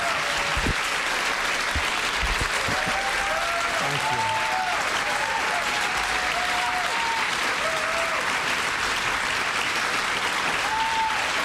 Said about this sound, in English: Let's take you to the room in the White House. People cheering, band playing. There's Trump at the podium.